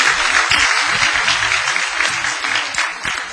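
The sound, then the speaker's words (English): A church audience claps steadily and loudly for a few seconds, giving the Lord a hand clap of praise, a dense wash of many overlapping hand claps with no voices rising above it. “Give the Lord another hand clap of praise in this place.”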